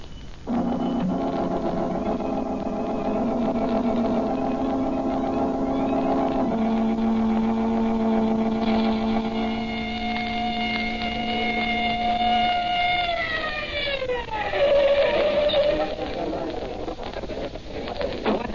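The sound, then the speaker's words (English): A police car engine runs outside while a loud siren holds a steady wail, then winds down in a falling glide near the end before the motor carries on. “Come on, I got the police car outside. Let's get going.”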